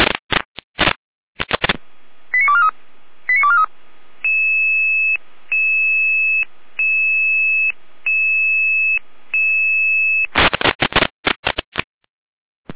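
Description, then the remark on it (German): Crackly radio static gives way to a few quick chirping tones, then a long train of steady, evenly pulsed electronic alert tones, before harsh static bursts return at the end. A German fire brigade radio alert at 17:02, calling out the Lehesten volunteer fire brigade to a tree touching a high-voltage power line. “Jeder mit Alarmierung.”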